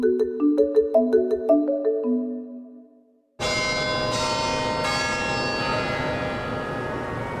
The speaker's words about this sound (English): At noon on a bright November Wednesday in central Hong Kong, cathedral bells ring out in the air.